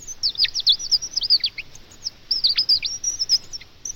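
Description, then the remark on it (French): A bird chirps in rapid, high twittering bursts, nearly continuous with a brief pause midway, clear against a quiet background with no voices. “cet oiseau vient de vous dire que je vais vous chanter une chanson qui s'appelle La Vieille”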